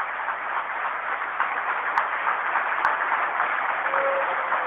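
A crowd at a school ceremony applauds the retiring director of Escuela 25 steadily for about five seconds, a dense, even wash of clapping at moderate loudness with no voices, broken only by a couple of faint clicks.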